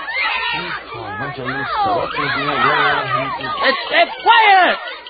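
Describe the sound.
Many high-pitched children's voices chatter and shout over one another in a loud, continuous babble, with squealing cries rising toward the end.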